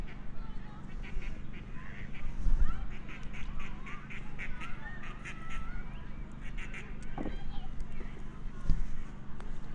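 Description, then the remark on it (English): A flock of ducks being fed bread quacks repeatedly in busy, overlapping bursts, with scattered splashes and low rumbling noise underneath and a voice murmuring now and then. “now we're feeding the duck. Not trying to. I'm trying to get them to make lots of noise.”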